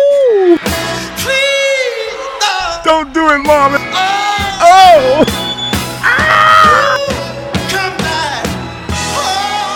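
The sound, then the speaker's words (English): A man lets out high, strained screams and wailing cries in repeated bursts, loud, over a full band with steady bass and drums. “Y'all want to hear him scream?”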